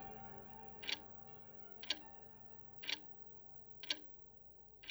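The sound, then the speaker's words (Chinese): A wall clock showing 9:30 ticks steadily, one crisp tick each second, five in all, fairly quiet, with a low hum underneath and no voices. “墙壁上的时钟指向9:30。”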